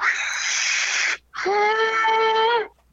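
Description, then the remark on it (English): Two loud blasts of a steam train whistle at the Sugar Pine Railway, next door to a hotel near Yosemite: a breathy, hissing first burst, then a longer, steady, mellow chord-like tone that cuts off abruptly. No voices. “And it was right next door at the Sugar Pine Railway, and it's only about a 5-mile trek.”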